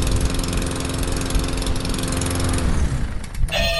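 A lawnmower engine runs steadily at a loud, buzzing drone with a low rumbling hum, then its pitch shifts and it sputters briefly near the end. No one speaks.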